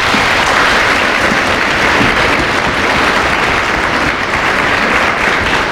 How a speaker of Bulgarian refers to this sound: Добре дошли в първо студио на Българското национално радио и в ефира на програма Хоризонт. Тук сме заедно, за да подкрепим нашите таланти. Аплодисменти!